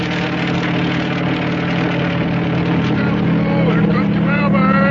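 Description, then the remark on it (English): A helicopter bringing mail from the United States, off Watling Island, makes a loud, steady, low droning roar of engine and rotors with a constant hum beneath, growing slightly louder toward the end as it approaches. “And that helicopter is bringing his mail from the United States.”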